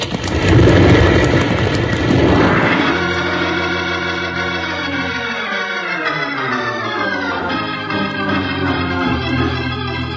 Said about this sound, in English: Hey, Jingles, that big rock. As they blasted it loose, it's falling down on us.